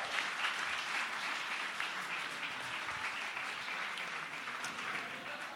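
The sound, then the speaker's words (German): Steady audience applause for an audience member who asked the best question, a dense wash of many hands clapping at a constant loud level for several seconds, with no voices over it. “Wenn das mal kein Applaus wert ist.”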